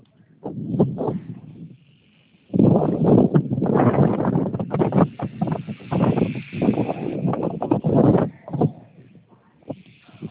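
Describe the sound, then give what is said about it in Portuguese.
Strong wind in Paraná buffets the microphone in loud, rumbling gusts, mostly steady from a few seconds in with brief lulls, harsh. “Estou ouvindo, viu, o vento.”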